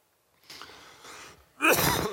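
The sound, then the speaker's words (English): A soft, breathy intake of air lasting about a second, followed by a single loud, harsh cough burst at the end from a speaker teaching on a Bible passage whose cough drop isn't working, with no talking. “This cough drop isn't working.”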